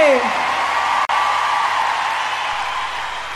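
A crowd applauds and cheers in a dense, steady wash of clapping, opening with a high whistle that slides downward, with a momentary cut about a second in.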